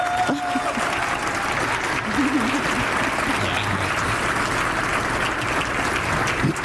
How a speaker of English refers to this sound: Over the years, though, I'm thankful to have built a wonderful, amazing community of two-spirit indigiqueer family. Please, again, clap for these folks.